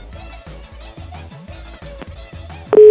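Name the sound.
telephone call tone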